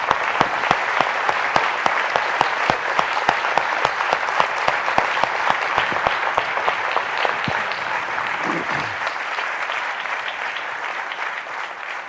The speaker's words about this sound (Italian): Vi prego un applauso per questo.